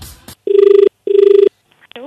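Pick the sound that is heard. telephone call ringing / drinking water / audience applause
telephone call ringing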